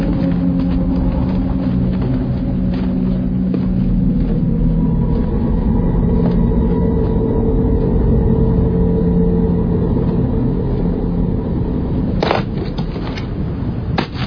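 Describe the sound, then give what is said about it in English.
The engine of a '90 model car runs loudly and steadily, its low hum rising and dipping slightly as it revs, with a brief rattling clatter near the end. “do you like the car?”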